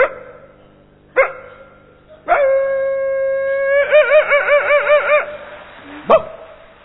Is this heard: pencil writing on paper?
no